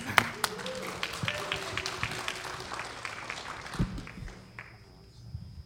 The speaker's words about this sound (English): I think that's the first time I ever was applauded for what I do.